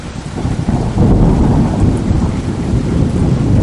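Deep, rolling thunder from a particularly intense night-time electrical storm rumbles continuously beneath a steady hiss of heavy rain, loud throughout, swelling slightly about a second in, with no voices.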